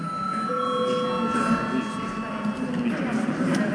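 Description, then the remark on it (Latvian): A steady electric bell rings continuously for several seconds in the chamber of the Saeima, the Latvian parliament, called for before registration mode. Its bright metallic tones hold a constant pitch over a low murmur of people talking in the background. “Lūdzu zvanu.”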